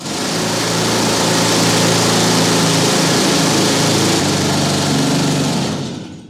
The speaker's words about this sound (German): Später ging es dann natürlich unter Tage. Da wurden dann auch andere Werkzeuge eingesetzt, zum Beispiel so Bohrhammer, die mit Pressluft betrieben wurden.